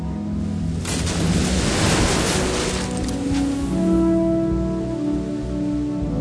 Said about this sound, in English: But the ship hit a sandbank. The front of the ship stuck there and could not move. Then the big waves began to break the back of the ship to pieces.